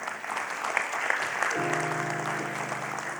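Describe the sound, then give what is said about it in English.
A crowd applauds steadily for news that 17,506 groups in Zambia have started hearing the story of Jesus, a dense wash of clapping throughout, with a sustained harmonic tone, like an organ or keyboard chord, entering partway through beneath it. “Yeah, we should clap for that.”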